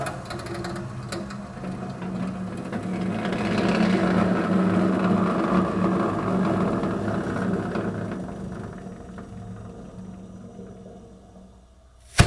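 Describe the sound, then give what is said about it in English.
A microwave-sized autoclave in a family practice office in Washington State, pressurizing and heating instruments for minor surgery to 250 degrees, runs with a steady mechanical hum and a low, throbbing drone that swells in the middle and then tapers off, ending in a sharp click as its front door pops back. No one speaks. “And the sound that you're going to hear is my autoclave, which we use to sterilize instruments for minor surgical procedures that are done in the office.”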